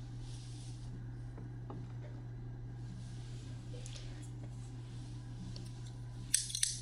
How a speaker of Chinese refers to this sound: 剪刀放在火炉上烤一下，先生，我们要开始了。